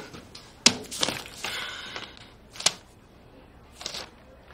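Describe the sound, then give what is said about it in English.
Crumpled paper rustles and crackles in a few sharp bursts, then a balled-up draft is tossed towards the trash can, misses it and lands softly on the floor. Fairly quiet. “She takes her finger from the keyboard and tosses the draft towards the trash can. It misses the garbage and lands on the floor.”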